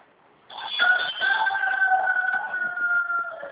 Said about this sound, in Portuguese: Ah, Tem um galo aí. eu tô ouvindo. É aí com a senhora, perto? Não, é nem aqui comigo.